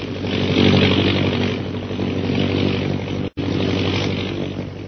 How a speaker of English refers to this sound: We join them now as their plane circles over the hill.